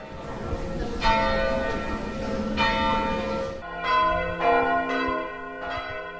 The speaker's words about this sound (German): Das heißt, viermal Glockengeläut, viermal O du Fröhliche.